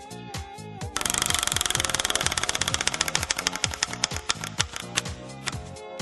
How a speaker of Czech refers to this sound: A já už roztáčím kolo štěstí.